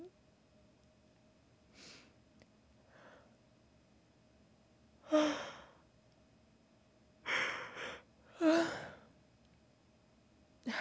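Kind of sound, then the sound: human body sound, yawn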